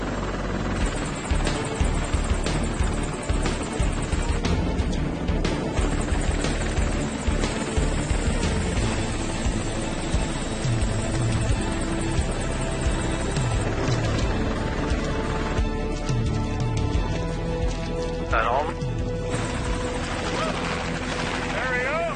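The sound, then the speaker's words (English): A helicopter hovering low over water with its landing struts in the water roars loudly for the whole stretch, its rotor chop and engine whine steady and unbroken, with muffled voices buried beneath the noise. “If we go out too fast, we can put the helicopter out of balance and overcorrection, and he can roll it over.”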